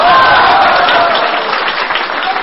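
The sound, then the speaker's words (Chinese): A large audience at a live stage performance bursts into loud, sustained applause, a dense wash of clapping that holds steady for a couple of seconds with no one speaking over it. “唱到哪儿要是忘了，比如说要是忘了，我就一咳嗽，你们就鼓掌，就转过去，好不好？”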